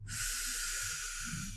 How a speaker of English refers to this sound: So when adversity strikes, remember to take a deep breath.